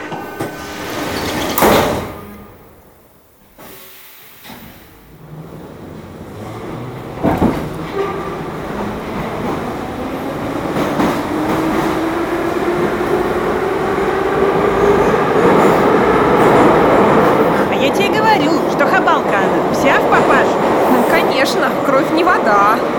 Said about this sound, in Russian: Двери закрываются. Следующая станция – Василеостровская.